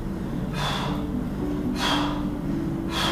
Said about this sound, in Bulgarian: Точно така. Продължавай. Вдишване нагоре енергията, издишване надолу енергията. Просто фокусирай в дъха и в енергията, нищо повече. Дишане, динамична медитация. Ковашки мях, бастрика.